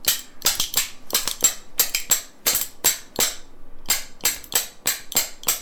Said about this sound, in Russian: А сложно на ложках научиться играть? Да. Как надо брать? Вот эту ложку надо упереть... Вот в этот палец большой. И положить вот на этот. Вот эту ложку берем под низ и рядом, чтобы она была вот. Чтобы они это, бились.